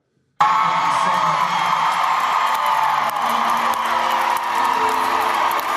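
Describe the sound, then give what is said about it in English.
A concert crowd cheers loudly and steadily, a dense roar of whoops, yells and scattered shouts that starts abruptly and holds at full strength for several seconds. “Then he blows kisses to the crowd.”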